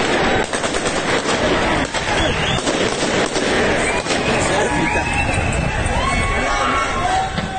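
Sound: gunfire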